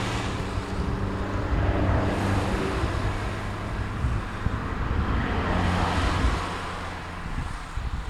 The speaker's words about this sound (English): Oh, we're experiencing a lot of traffic here. Yeah, much more than I expected.